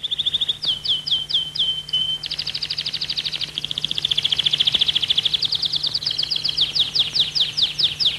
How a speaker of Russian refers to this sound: Тюрьму посещает пастор со своей чопорной женой, которая в ожидании его сидит рядом с Чарли у открытого окна, из которого доносится пение птиц.